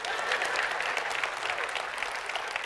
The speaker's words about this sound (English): Now you can clap.